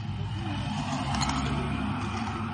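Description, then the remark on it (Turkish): Another car approaches on the road near the South Campus turnoff, giving off a steady, low engine and tyre rumble that holds at an even loudness throughout, with a faint hiss of wind or road noise on top. “Bir araba daha geliyor.”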